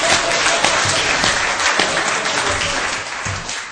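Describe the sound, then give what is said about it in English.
A crowd breaks into steady applause, giving a hand to the host for putting on an afternoon gathering with food; many hands clap densely and evenly for several seconds, fairly loud throughout and only easing slightly toward the end. “a hand of applause for putting on such a beautiful afternoon.”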